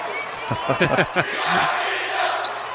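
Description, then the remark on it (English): Arena crowd noise from a large crowd at a basketball game involving West Delaware, with the second deck filling in: a broad, steady murmur of many voices with a few brief shouts and vocal bursts early on, then a sustained roar that fades slightly. “Just letting us know there's a lot of people here tonight. It's a good crowd.”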